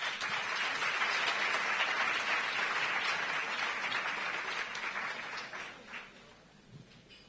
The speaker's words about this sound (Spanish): Un aplauso para él.